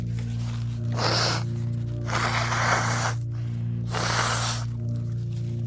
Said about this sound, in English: I'm just gonna blow my nose real quick, okay?